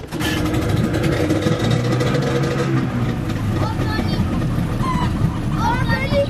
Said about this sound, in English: We've taken the boat and we've ridden upriver. Now we are at the foot of the Volta Hydroelectric Dam.